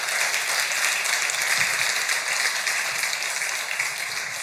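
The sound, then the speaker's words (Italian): A crowd at a church gathering applauds steadily, welcoming two people invited up; a dense wash of many hands clapping at an even, loud level throughout, with no clear gaps or voices breaking through. “Facciamo un applauso.”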